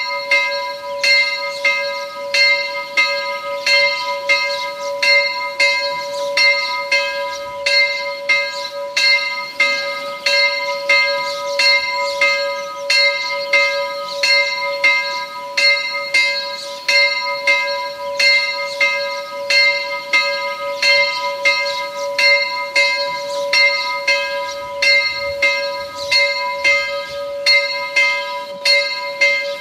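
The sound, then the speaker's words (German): At 12 noon, the single bell of the branch church of Mödendorf, in the parish of Pörtschach am Berg in Carinthia, tolls in a steady, unbroken rhythm. Each strike blends into a sustained metallic ring that hums between blows, clear with no voices. “Sie hören die Glocke der Filialkirche Mödendorf, der Pfarre Pörtschach am Berg in Kärnten.”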